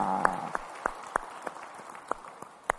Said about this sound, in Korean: 우리 찬양을 받으신 주님께 영광의 박수 올리겠습니다. 할렐루야.